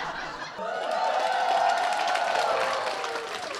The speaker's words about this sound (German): Das Publikum ist begeistert und tobt bei jedem neuen Witz.